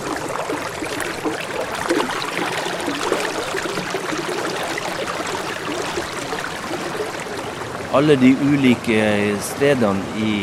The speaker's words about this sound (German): Jedes dieser Flüsschen klingt anders und zusammen ergibt das eine Art Wassersinfonie.